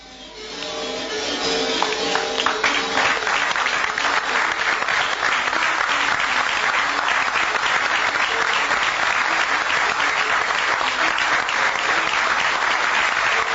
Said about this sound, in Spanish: Una parte, por lo menos, de estos aplausos, como bien decías, para Noelia Campo